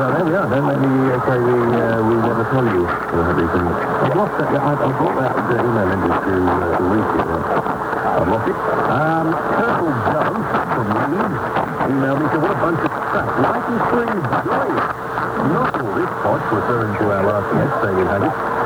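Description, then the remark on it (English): AM radio reception of an English station on 1089 kilohertz through a Drake R8B receiver with 1.8 kilohertz IF filter in ECSS lower-sideband mode with AM sync: muffled, band-limited voice and music, overlaid by warbling, garbled chatter bleeding in from a Baltimore station on 1090 kilohertz, steady and loud throughout. “Interference is from WBAL Baltimore on 1090, just 1 kilohertz away”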